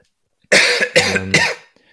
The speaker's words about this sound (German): Wir nehmen jetzt auch schon sehr lange auf und ich glaube, jeder kennt diesen Moment, wenn es vom Husten her dann einfach irgendwann immer schlimmer wird.